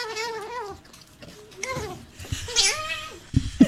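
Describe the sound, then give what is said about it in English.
High, wavering squeaks from an otter begging for food, kitten-like and repeated in several rising and falling calls, fairly loud, with a brief rustle near the end. “Let us relish in this moment during the show where we are now educating everyone on the sounds of an otter.”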